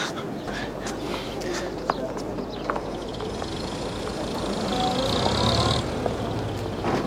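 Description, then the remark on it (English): A busy street with people, cars and children: steady traffic rumble, passing vehicles and an indistinct murmur of voices and footsteps, with a few sharp clicks and a slight swell in the noise toward the end. “It's a street, Septimus. With people, cars, children.”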